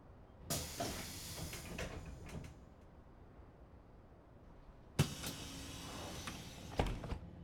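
bus arriving at stop

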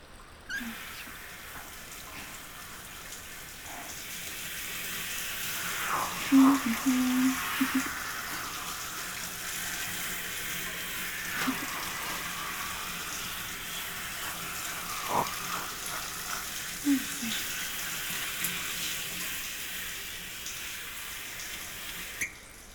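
shower water spraying

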